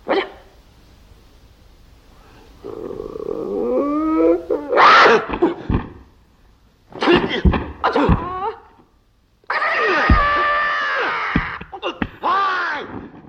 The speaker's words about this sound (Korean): 아, 이렇게 우리 이소룡 얘기를 좀 하고 있는데 여기서 이소룡의 그 트레이드 마크죠. 그 괴성. 아뷰요. 요거. 저 안 들어볼 수가 없어요.